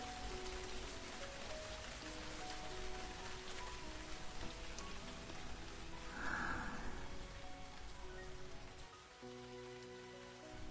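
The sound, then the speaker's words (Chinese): Steady rain patters onto wet ground and small puddles, a soft, continuous wash of drips with no voices, easing slightly toward the end as the rain is about to stop. “如果不是雨快停了，我还真想多跟你赖在屋檐下待一会儿。”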